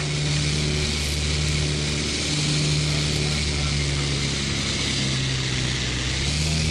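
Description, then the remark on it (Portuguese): A steady, loud engine drone with a low, rough hum from a propeller aircraft whose number 2 engine is vibrating heavily, with a left magneto problem, running continuously without a break. “É muita vibração no motor 2. É coisa séria.”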